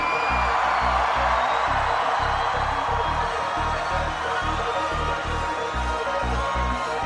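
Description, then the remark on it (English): A huge festival crowd roars and screams continuously, a dense wall of cheering over a pounding low rhythmic thump like live music, loud and sustained throughout. “So fucking scream!”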